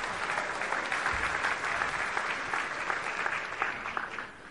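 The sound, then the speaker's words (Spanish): Steady applause from an audience, a dense wash of many hands clapping at an even level for several seconds, with no one speaking over it. “Un aplauso, hermano.”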